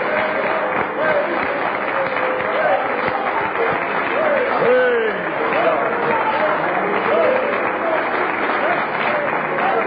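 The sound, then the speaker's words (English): An audience claps steadily to praise the Lord in a dense, sustained burst of applause, with scattered voices calling out over the clapping throughout. “Among other things, it told us to praise the Lord with a hand clap.”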